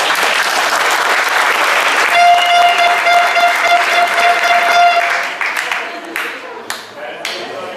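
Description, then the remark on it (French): An audience applauds the FCPJ becoming an official association, bursting into a dense wash of clapping that holds steady for about five seconds, then thins out into scattered, fading claps. A steady whistle-like tone rings through the middle of it. “Le FCPJ existe enfin, donc je pense que ça peut s'applaudir.”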